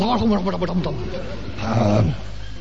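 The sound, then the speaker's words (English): A person growls and roars in imitation of a lion, two drawn-out throaty bursts, the second rougher and louder, fairly loud with no other sounds. “Suddenly a big lion comes scuttling out.”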